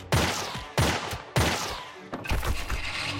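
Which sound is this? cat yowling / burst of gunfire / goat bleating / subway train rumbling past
burst of gunfire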